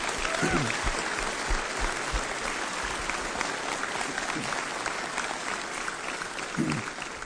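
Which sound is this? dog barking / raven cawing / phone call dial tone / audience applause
audience applause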